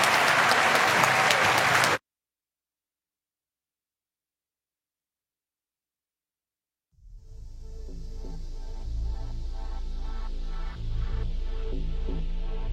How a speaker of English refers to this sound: So let's give a gigantic round of applause to Speaker Nancy Pelosi.